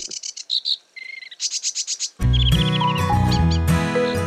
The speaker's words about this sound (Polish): O, to już mniejszy ptaszek, nieco mniejszy od wróbla, ale o podobnym kolorze.